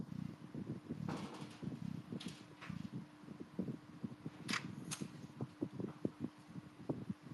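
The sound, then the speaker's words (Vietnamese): A door being opened, with a series of sharp clicks and latch rattles followed by soft shuffling and knocking handling noises, moderately loud, with no one speaking. “đợi tí tao mở cửa cho con màn lìn kia ra.”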